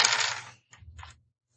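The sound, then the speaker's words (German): Dice clatter and tumble across a hard surface in two quick rattling bursts, fairly loud, then settle into silence with no voices. “Okay, pass auf. Ich würfel für Christian.”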